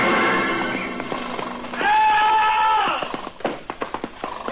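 horse rearing and whinnying

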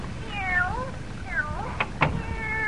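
cat meowing

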